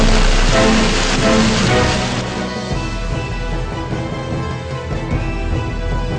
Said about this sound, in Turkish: Ankara çok uzun zamandır böyle dolu görmemişti. Bugün gördü. Her biri yumurta büyüklüğünde. Yaralayacak cinsten. Havadan adeta mermi gibi dolu taneleri yağdı bugün Ankara'ya.